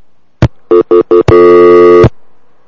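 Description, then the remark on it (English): A click, then three short electronic beeps and a longer steady telephone line tone after a call is hung up, ending in another click. Loud, with no voices. “Hey, let me clear the line.”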